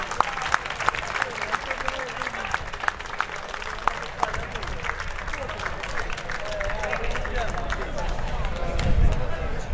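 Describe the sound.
A crowd at a festival award ceremony applauds steadily as a prize is presented, with dense overlapping claps. Voices murmur underneath and the clapping swells slightly toward the end.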